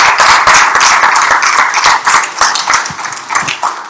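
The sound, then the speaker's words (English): A crowd applauds steadily as the worship team comes forward, dense overlapping claps filling the space at a loud, sustained level with no voices standing out. “As they're coming forward, yes, go ahead and clap, please.”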